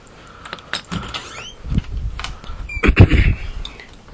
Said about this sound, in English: Closing the door.